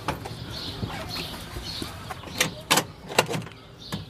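A 50-cent coin drops into an animal feed dispenser at a chicken enclosure, giving a few sharp mechanical clicks and rattles, while birds chirp and flutter faintly in the background.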